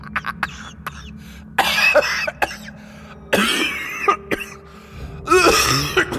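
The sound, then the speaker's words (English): Harsh, sputtering coughs burst out of a man's mouth in several loud fits, mixed with wheezy, laugh-like gasps between them, as if he is choking on laughter. No one speaks. “A mixture of coughing and laughing that reminded Keelan of a petrol mower struggling to start.”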